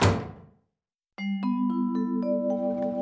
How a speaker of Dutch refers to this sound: Cruella is woedend. Ze smijt de deur achter zich dicht.